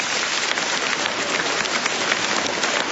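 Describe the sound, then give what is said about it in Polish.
A crowd claps steadily for the organizers and hosts from the parish of the Sanctuary of the Visitation of the Blessed Virgin Mary in Krasnobród, a dense and even patter of many hands that holds at a constant loudness from start to finish, with no voices on top. “Brawa dla nich!”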